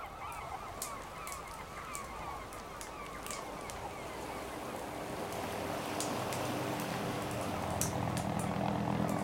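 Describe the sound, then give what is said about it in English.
A helicopter that carries food to a town in the jungle drones overhead, its steady engine and rotor rumble growing gradually louder and fuller, over a noisy outdoor background dotted with brief, sharp bird calls. “This helicopter takes food to a town in the jungle every week.”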